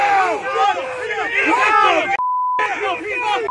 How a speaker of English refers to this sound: The crowd erupts. We got weights and fish! There we go!